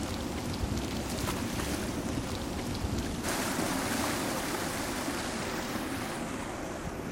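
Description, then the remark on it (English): Water sloshes and splashes steadily in an indoor municipal swimming pool with a water slide, a dense, continuous wash of sound with no voices, its bright hiss easing slightly partway through. “He wades through the water and then sits up on a circular rim in the middle of the pool.”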